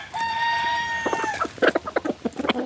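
A rooster lets out one long, drawn-out crow, then a flurry of quick clucks from chickens follows in an uneven, busy rhythm. No one speaks.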